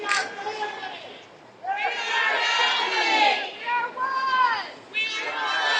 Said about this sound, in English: A large crowd gathered at a park in Roseburg holding candles and comforting each other. Oregon Governor Kate Brown addressed them with a message of unity.